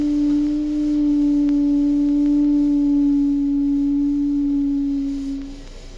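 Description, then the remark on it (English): A steady, low moaning whistle from a cold steam-car burner holds one pitch for several seconds with faint overtones, then fades near the end over a soft background hiss. “Perhaps you heard a little low whistle. Burners give a low, moanful whistle when they're cold.”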